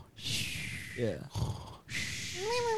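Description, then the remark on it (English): A person fakes snoring with their voice: a few rasping inhaled snorts and breathy exhales, ending in a short voiced whine. “Do the fake this snore.”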